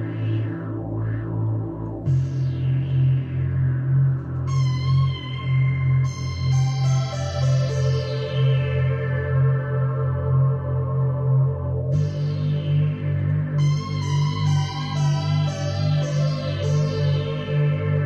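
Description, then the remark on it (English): An Eternal Engine Mars tube synthesizer, with a tube for each voice and a Nixie-tube display, plays a sample: a sustained, buzzy sequence of low notes and chords, bright overtones sweeping and shifting every few seconds, steady and loud throughout with no voices. “What I love is, for the kind of display that will tell you some values or settings or whatever, it's got Nixie tubes in it, as well as a tube for each voice, it looks like. Let's hear a bit of a sample.”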